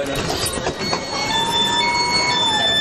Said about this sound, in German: Die Türen gehen immer automatisch zu, aber wenn jetzt jemand wieder den Knopf drückt, weil die Bahn noch nicht losfährt. Hier, ich mache euch das mal vor. Moment, pass auf. Ich mache die Tür wieder auf.